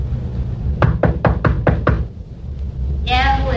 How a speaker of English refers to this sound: sure they're in, Sergeant? I hope so. Knock again.